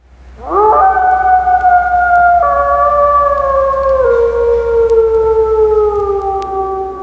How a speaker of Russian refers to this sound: Ого, действительно настоящий ведь волк завыл. Очень душевно. А сейчас инструмент перехватил, саксофон его вой, но очень похоже.